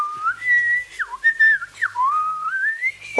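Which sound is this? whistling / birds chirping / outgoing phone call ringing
whistling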